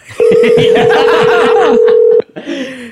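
A loud, steady phone dial tone hums for about two seconds as a call is placed, over faint background chatter and laughter, then cuts off, followed by softer, shorter tones.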